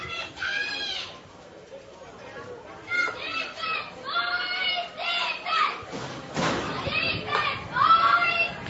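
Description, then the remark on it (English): Cheerleaders' high-pitched young voices cheer and chant together in rhythmic bursts at a Washington County high school baseball game against Columbus, rising and falling over a steady background of crowd murmur. “And as the boys warm up there, the cheerleaders will keep the energy up.”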